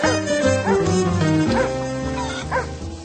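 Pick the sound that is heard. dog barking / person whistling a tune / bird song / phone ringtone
dog barking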